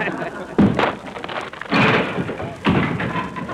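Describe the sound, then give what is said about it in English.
A door slams shut with a heavy thud as a man comes in, followed by a couple more knocking bumps against a rough, rain-like background hiss. “Well, he found that one.”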